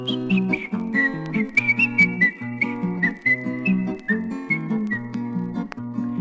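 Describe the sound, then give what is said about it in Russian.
A thin, high whistling tune plays continuously over a bouncy instrumental backing, sliding between notes in a steady rhythm for several seconds, with no voices. “Дыркой в боку свистел.”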